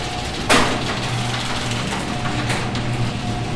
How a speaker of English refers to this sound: That's the garage door.